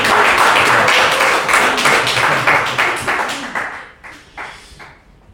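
A group applauds with dense, rapid clapping that holds steady for a few seconds, then thins out into a handful of scattered final claps before stopping.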